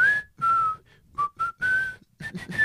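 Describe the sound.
Someone whistles a short melody, a string of clear, sustained notes in several phrases separated by brief pauses, the tune mimicking the flute part of a song. No one speaks.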